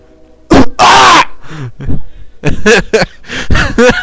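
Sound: cough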